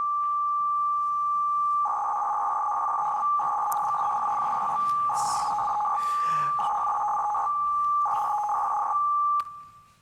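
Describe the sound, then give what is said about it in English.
A steady electronic tone with bursts of warbling, modem-like FSK-modulated radio data tones switching on and off in short blocks over a faint hiss, loud and continuous, with no talking. “All right, so it sounds a bit like a modem. In fact, it's an FSK modulation.”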